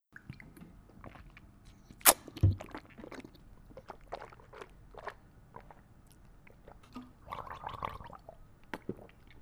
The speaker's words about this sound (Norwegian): Kan du gjette hvilken væske … nettopp svelget? Det var lyden.